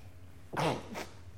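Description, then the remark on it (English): A single sneeze: a voiced, breathy burst followed quickly by a sharper hiss, standing out against a quiet background hum with no talking. “See, I said an hour ago that another sneeze was coming.”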